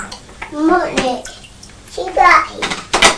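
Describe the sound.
Water runs and gurgles steadily as it drains out of a bath, a continuous splashy rush, while a young child's voice chatters and squeals over it in short bursts.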